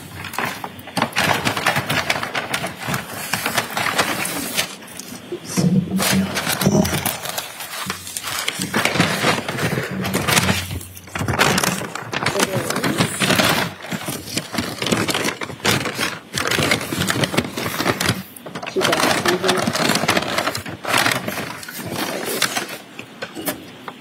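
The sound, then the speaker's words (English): A brown paper evidence bag, item 7-11, holding a hammer, being opened in court: loud, steady crinkling and rustling of stiff paper for about twenty seconds, in uneven bursts with a few brief pauses and occasional soft knocks, no voices. “Could you open the bag and make sure the hammer's inside?”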